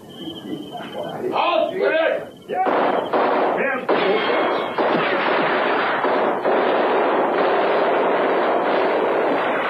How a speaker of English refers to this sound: And then we realized the guns were not being fired in our direction. About 300 meters away, a skirmish was being fought between a German